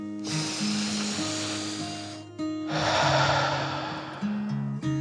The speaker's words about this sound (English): As Dragon reached the cave entrance, the first drops of rain splashed down to the earth.